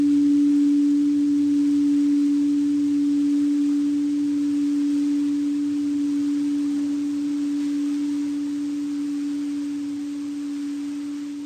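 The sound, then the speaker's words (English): A gong rings on its own with a single steady, low-pitched hum that lingers for over ten seconds, slowly growing quieter as it fades. “Begin with just listen to the gong and let your mind rest in this just sense of openness and stillness.”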